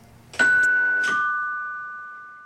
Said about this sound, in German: Ding Dong!